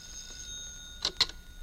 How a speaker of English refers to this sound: The phone's ringing. I hear it. Answer it.